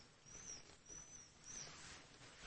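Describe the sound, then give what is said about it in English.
A faint bird call: a few thin, high whistling notes drift in and out over a soft background hiss, with no one speaking. “See, that was a bird.”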